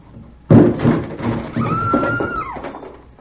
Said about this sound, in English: This is the police! Open in the name of Perón! Open! Break down the door!